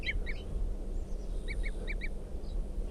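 A wild bird gives a series of short, high tooting calls in quick pairs, fairly faint, over a steady low rumbling background with no talking.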